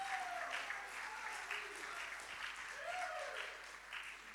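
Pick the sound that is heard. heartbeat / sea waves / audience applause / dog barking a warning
audience applause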